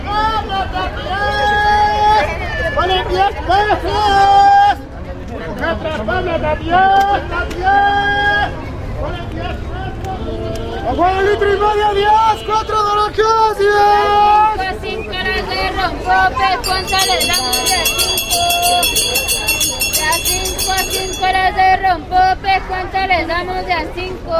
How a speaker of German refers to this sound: Eine Oase von der Ruhe ist der Bosque de Chapultepec definitiv nicht. Die Händler, die vor ihren kleinen Ständen stehen, überbieten sich gegenseitig mit Schreien. Für die Ohren ein Spiessrutenlauf.